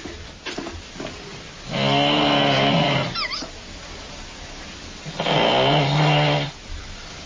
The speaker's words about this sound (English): who recorded this snoring. This is my mom snoring.